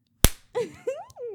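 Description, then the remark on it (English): A single sharp slap of a hand striking buttocks, followed by a few drawn-out wordless vocal sounds from a voice. “He doesn't like it when guys slap my ass.”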